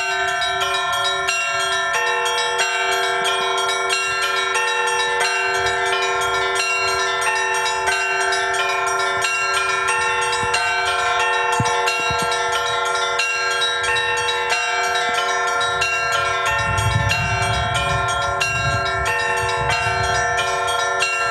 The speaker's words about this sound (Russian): Торжественный перезвон в исполнении самой юной участницы фестиваля